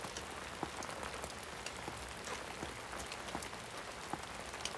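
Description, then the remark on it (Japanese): Steady rain pattering on a surface, a dense continuous hiss with scattered sharper drops. No voices, just the even wash of falling rain throughout. “もうすぐ梅雨かな。”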